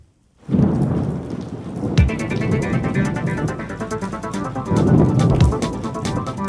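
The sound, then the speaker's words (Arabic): A thunderstorm rolls in: steady heavy rain patters while deep rumbles of thunder swell and fade a few times, with a sharp crack partway through. No voices. “الجو اليوم غائم جزئيا إلى غائم مع انخفاض ملحوظ في درجات الحرارة، تهطل أمطار متفرقة تشتد أحيانا ومترافقة مع برق ورعد ورياح نشطة”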